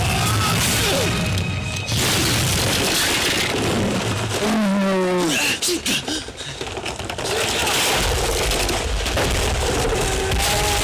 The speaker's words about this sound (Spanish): Sitka se incorpora y clava su lanza en el hielo, provocando una enorme grieta.